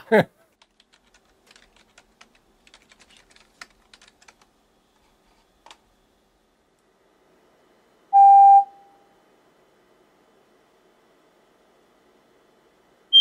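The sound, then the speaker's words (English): A single steady computer-played test tone, played to a mosquito while the responses of its neurons are recorded, sounds for about half a second, loud and mid-pitched, after a scattering of faint keyboard-like clicks; the rest is near silence. “This bottom trace here is the tone that the computer is playing.”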